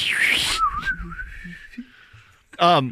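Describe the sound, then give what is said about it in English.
A person whistles a wizard bird impersonation: a hissy rising sweep, then a long, steady, slightly warbling whistled tone. It ends with a short, loud burst of voice. “The clap is intentional because it's more precise in the waveform, but I hear if we could both do a wizard bird impersonation.”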